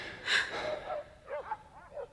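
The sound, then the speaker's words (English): A couple of stray dogs bark: a sharp yelp followed by a few faint, scattered barks and whines, quiet, with no one speaking. “Lord, some one of those dogs is about to lose a tail.”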